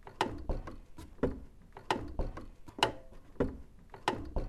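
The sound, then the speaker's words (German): Wooden spiral stairs creak under slow, repeated footsteps as seven figures creep quietly down into a dungeon in total darkness, each step bringing a sharp creak or groan in a steady rhythm, moderately loud with no voices. “Die Stufen sind aus Holz und in der Dunkelheit hört man nur das Quietschen der Stufen.”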